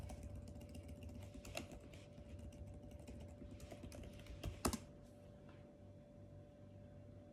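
Rapid typing clicks on a computer keyboard in an irregular stream, steady, with a couple of sharper louder key strikes near the end over a constant low hum, during a live stream; no one speaks.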